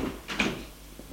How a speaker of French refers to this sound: La femme, la porte s'ouvre, la femme entre.